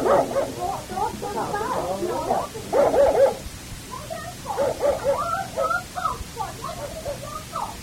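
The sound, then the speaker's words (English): A dog barks repeatedly in quick, irregular bursts, mixing sharp yips with a few whimpering notes, moderately loud over a low background rumble. “All the time so nervous for the dog bark, Ma.”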